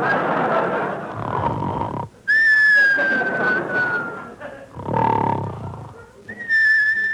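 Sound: whistles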